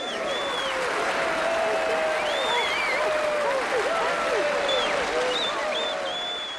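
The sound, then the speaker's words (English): A studio audience cheers and applauds loudly and steadily as Piggy enters through double swung doors in a sketch, a dense wash of clapping with whoops and shouted voices rising above it, sustained without a break for several seconds. “But yes, she then enters through the double swung doors and the crowd goes wild.”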